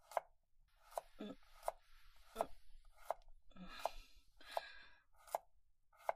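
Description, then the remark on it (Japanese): A kitchen knife chops steadily on a cutting board while a meal is being cooked, about nine crisp, evenly spaced strikes, with soft scraping and rustling between the hits and no talking. “もう、包丁使ってるから危ないよ。”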